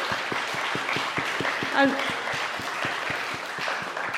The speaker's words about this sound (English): I just thank you for all those who've made this Sunday lunch happen. I mean, we need to give them a clap because they are fab.